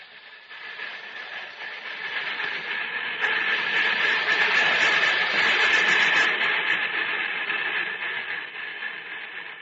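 A locomotive runs steadily along the rails, a continuous rumbling, hissing roar with faint rhythmic clatter that swells louder after the first few seconds and eases slightly toward the end. No one speaks.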